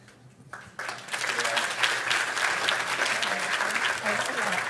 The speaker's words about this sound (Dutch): Laten we nog een wat harder applaus geven. Het is super tof.